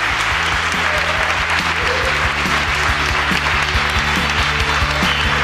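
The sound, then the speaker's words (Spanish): Steady, loud audience applause welcoming a band appearing as guests on a program fills the whole clip, a dense wash of clapping with low rhythmic musical tones pulsing underneath throughout. “Un fuerte aplauso”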